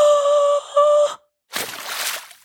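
A drawn-out voiced moan breaks off, and after a short silence comes a loud, breathy gasp of sharply inhaled air that fades out. No words are spoken.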